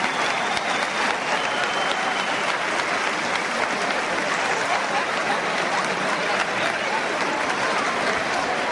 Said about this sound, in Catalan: I d'aquí aquests aplaudiments de plaça per la colla.